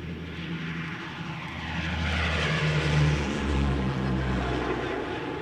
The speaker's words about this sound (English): The pilot starts the engines and takes off. Seconds later, the plane is airborne and knifing northward through the night.